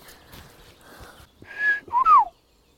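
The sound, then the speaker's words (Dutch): A person whistles an imitation of a blackbird's song: a steady tone followed by two quick gliding notes, clear and fairly loud, after a stretch of soft background rustle. “Ja, die merel, zo klinkt hij een beetje, die toon.”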